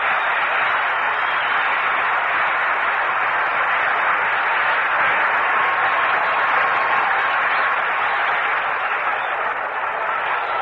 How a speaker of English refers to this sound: A round of applause for Robuck.